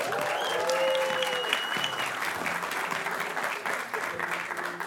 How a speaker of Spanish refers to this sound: para el cual yo pido que lo recibamos con un aplauso.